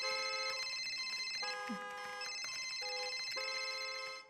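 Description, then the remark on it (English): A cell phone ringtone plays a bright electronic melody, its sustained tones stepping between pitches every half second or so. It rings steadily and fairly loudly for about four seconds, with no voices. “I hope you've remembered to silence your cell phones, by the way, for this service.”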